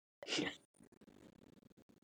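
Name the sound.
sneeze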